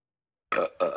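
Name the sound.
burp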